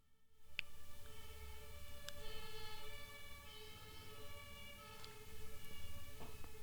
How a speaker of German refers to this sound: Vielleicht hört ihr den Krankenwagen im Hintergrund.